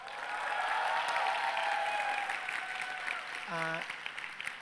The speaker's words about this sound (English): It is her birthday, so let's clap it up for her.